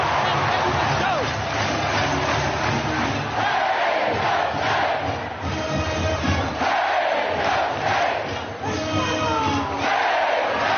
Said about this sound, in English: Listen to that crowd.